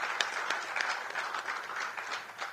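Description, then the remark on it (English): An audience at a peace-building gathering applauds themselves steadily, many hands clapping together in a dense, continuous patter at moderate volume, with no voices rising above it. “And so before we start, let's just give ourselves a big hand clap. Clap for yourself.”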